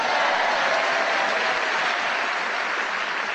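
Loud, sustained applause from an audience, a dense steady wash of clapping that holds its level throughout with no speech over it.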